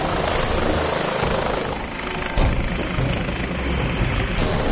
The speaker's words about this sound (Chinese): 呼号为费尔法克斯一号 Fairfax One 的警察直升机开始升空。